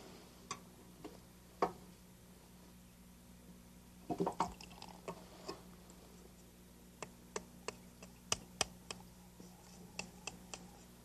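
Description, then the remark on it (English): Blue powder paint being stirred into water to make paint: soft, irregular clicks and taps against a container, with a brief burst of wet swishing partway through. Quiet, with no voices. “And we'll mix it with some water.”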